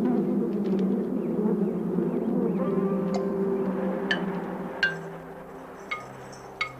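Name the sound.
honeybees buzzing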